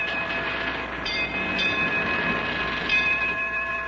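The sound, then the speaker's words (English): A ship's bell rings five times, each clang blending into a sustained, shimmering metallic tone that hangs between blows. No one speaks. “Now, there goes that crazy ship's bell ringing 5 times.”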